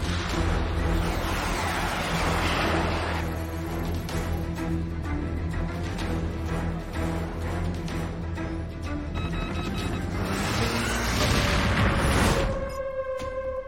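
A loud, sustained rocket-like roar from a surface-to-air missile launch rumbles throughout, swelling into a harsh explosive burst near the end before cutting off. No voices are heard.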